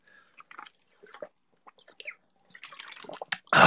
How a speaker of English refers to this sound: I should probably drink some water in between. Let's go ahead and do that.